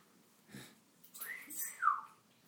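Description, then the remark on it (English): A few short, whistly bird chirps rise and fall in quick succession, fairly soft, from birds inside a feed store in Aloha, Oregon, with a brief rustle just before them and no voices. “And got a couple birds and rabbit in here.”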